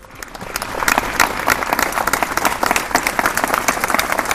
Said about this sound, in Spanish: El minuto de silencio finalizaba con una sonora ovación y gritos de ¡Viva la Guardia Civil! Unas 100 personas arropaban a la Corporación Municipal y a los miembros de los cuerpos y fuerzas de seguridad del Estado.